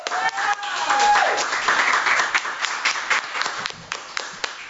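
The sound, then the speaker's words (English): An audience breaks into steady, dense applause for Sal, the owner of the Shanley, with crisp individual claps standing out, a brief whistle rising over it early on, the clapping thinning slightly toward the end. “Let's hear it for Sal.”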